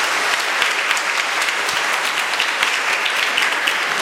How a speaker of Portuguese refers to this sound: Para essas crianças também vamos dar uma salva de palmas, né?